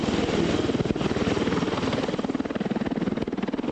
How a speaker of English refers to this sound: The Osprey deftly swooped in over the air station, banking sharply. It displayed its agility as it flew backward, hovering above the tarmac, before twisting and lifting off, and quickly switching into airplane mode as its big rotors tilted forward.